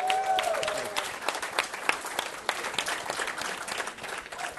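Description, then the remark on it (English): A crowd applauds steadily, dense overlapping claps forming a continuous patter for several seconds, with a brief voice or cheer at the very start. “I'm not sure if you heard it, you would still applaud, but that's okay.”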